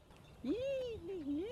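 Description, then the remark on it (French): A person imitates a tit's call with one sustained, wavering vocal tone whose pitch dips and rises twice, fairly loud, following a brief quiet moment. “Il faudrait que je fasse le cri de la mésange.”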